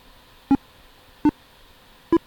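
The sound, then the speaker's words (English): Three short electronic beeps from the NVDA screen reader sound at a steady, slightly uneven pace, each a clear tonal blip standing alone against a faint background hiss, signalling progress while CD burning software copies a track from a CD. “So we can hear NVDA making the beep noise.”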